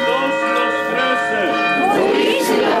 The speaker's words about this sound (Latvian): Tieši pusnaktī zvanu skaņas visās pareizticīgo baznīcās Bulgārijā pavēst priecīgo notikumu.